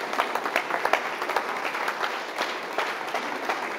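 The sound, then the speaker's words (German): An audience gives a cheerful, welcoming applause as a speaker is invited forward, many hands clapping in a dense, crackling wash with a few sharper individual claps standing out, sustained at an even level without any talking. “Und sie dürfen jetzt gerade hier vorkommen, gendern doch einen fröhlichen und einladenden Applaus.”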